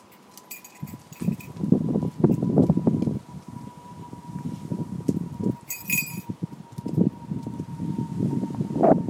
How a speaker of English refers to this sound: Plane going about as well.